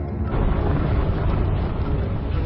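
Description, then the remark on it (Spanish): A sustained, loud rumbling blast fills the whole clip, a dense low roar with crackling debris noise that never lets up: an apartment in Leganés being blown up by seven entrenched suspected terrorists after GEO officers broke down its door. “Pero estos, en lugar de entregarse, hacen estallar el piso.”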